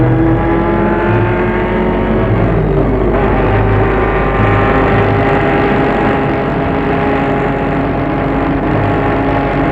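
Race car engines roar and rev loudly and continuously, a dense layered mechanical whine with shifting pitch as the cars push on. No voices.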